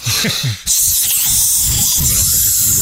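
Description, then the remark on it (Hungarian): A dental air syringe blows a steady, loud hiss of air that runs almost the whole time, with a brief dip early on and faint low murmurs underneath, during dental treatment. “Fújógép levegő.”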